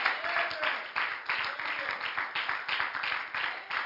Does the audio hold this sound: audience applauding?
yes